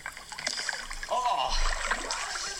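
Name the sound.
splashing water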